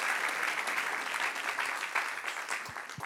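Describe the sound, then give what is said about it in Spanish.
A crowd claps steadily and loudly, giving another round of applause to Christ as king, dense overlapping applause without pause for a few seconds, with no clear voices standing out. “Dale otro aplauso al que es rey.”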